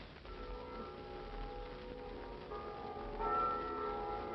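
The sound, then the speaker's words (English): The bells of every church in Philadelphia ring together to welcome an arriving visitor to the city, their overlapping tones blending into a steady, continuous peal over a low background rumble, with no one speaking. “The bells of every church in Philadelphia are ringing.”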